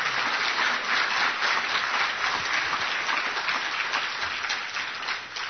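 Sustained audience applause, a dense wash of many hands clapping at steady loudness for several seconds, easing slightly at the end, with no voices.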